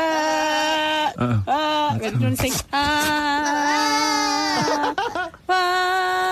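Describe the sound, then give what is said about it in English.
A goat bleats loudly and repeatedly in long, wavering, almost human-sounding cries, with brief breaks between calls and no other sounds around it. “give me a goat any day”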